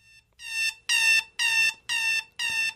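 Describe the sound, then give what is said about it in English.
A loud, harsh classic alarm clock buzzes in five evenly spaced bursts, each about a third of a second long with short gaps between, insistent with no voices. “Here's the classic alarm clock.”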